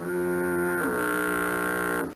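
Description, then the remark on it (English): A single long, deep foghorn blast holds steady for about two seconds with a rich buzzing tone that dips slightly in pitch midway, then cuts off abruptly. “If you don't know what a foghorn is, I'll give you an example of what it sounds like.”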